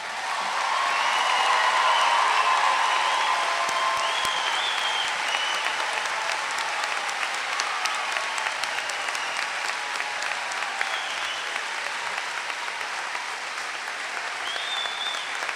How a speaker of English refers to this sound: Please join me in applauding the graduates.